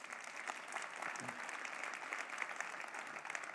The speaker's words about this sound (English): And so we're going to be kind. Yeah, clap for that. That's good.